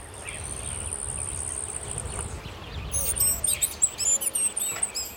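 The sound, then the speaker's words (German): A hummingbird, the world's smallest bird at 63 millimetres from beak to tail tip, calls in rapid bursts of very high, thin, squeaky chirps, following a steady high-pitched insect-like buzz, over a soft low rumbling background. “Ein Kolibri, oder? Richtig.”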